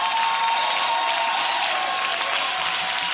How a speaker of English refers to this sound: If you believe that, give God a big hand clap of praise.